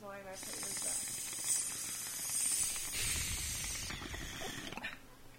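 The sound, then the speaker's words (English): A lighter is worked, its steady gassy hiss running for several seconds with fine clicking, ratchet-like texture and a brief low rumble near the end before cutting off. “What, we're switching lighters.”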